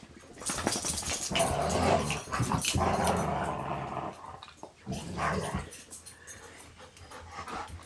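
A dog named Radar growls in rough, rumbling bursts mixed with heavy panting breaths, fairly loud and continuous for several seconds with a few short pauses, and no one talking.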